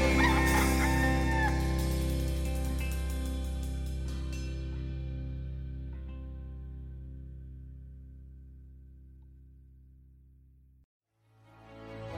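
A rooster crows loudly at the start over a bright, sustained musical tone, and the sound slowly fades across about ten seconds before a brief cutoff and a new tone begins.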